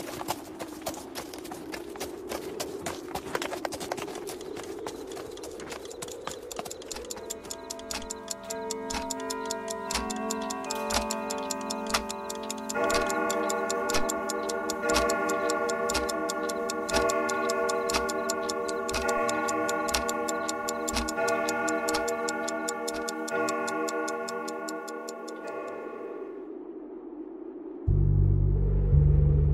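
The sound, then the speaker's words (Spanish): A horse's hooves trot in a steady, even clip-clop rhythm throughout, while sustained musical tones swell beneath them partway through. Near the end, a low rumble comes in. “Horas después, el comandante y mi bisabuelo despertaron con el trote del caballo.”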